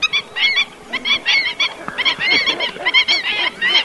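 Black-winged stilts on Formentera call in rapid bursts of sharp, nasal yapping notes, loud, with several calls overlapping almost continuously and no voices present.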